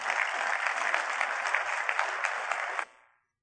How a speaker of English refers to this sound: So, men, give him the biggest round of applause you can as he comes up.